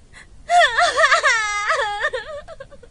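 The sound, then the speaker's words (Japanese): A woman sobs and whimpers in a long, wavering wail, her voice rising and falling with shaky breaths, fairly loud, with no words spoken. “泣いてんの？”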